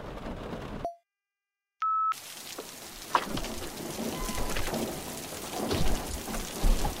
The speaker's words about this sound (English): Can we maybe step out of the rain for a moment?